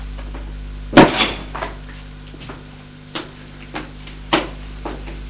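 A door opening: one sharp latch clack, then a few softer clicks and knocks over several seconds, with a faint steady hum underneath and no voices.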